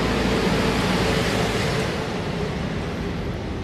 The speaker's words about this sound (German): Wir müssen jetzt einmal kurz an der Seite gehen, weil die Müllabfuhr kommt. Genau. Und wir warten noch einen Augenblick, weil es ja einfach zu laut ist.